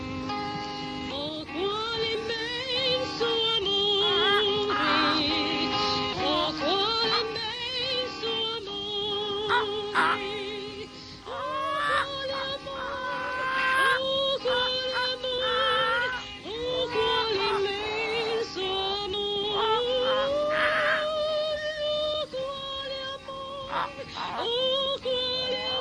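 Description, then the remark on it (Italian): A song with instrumental backing and a warbling, animal-like voice sliding between notes, someone imitating a hen clucking and singing along, loud and continuous throughout. “Brano che si intitola … accompagnato dalla Gallinella Mariella”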